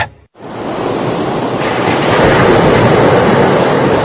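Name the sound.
ocean waves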